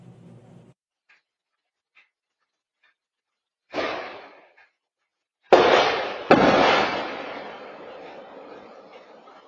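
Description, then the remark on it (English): A brief rushing whoosh, then after a short pause two loud, sharp reports less than a second apart, each trailing off in a long rumbling decay. No one speaks. “We'll play it two times, and if you watch and listen closely, you'll hear a sort of whooshing sound, then a flash, and the two reports come very quickly after that.”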